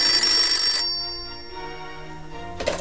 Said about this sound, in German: Plötzlich riss ihn das Klingeln des Telefons aus seinen düsteren Gedanken.